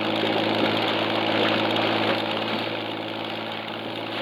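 A patrol boat engine runs steadily, a loud, continuous low rumble with a throbbing hum that eases slightly toward the end. No voices are heard.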